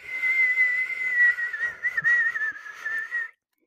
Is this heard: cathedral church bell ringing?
no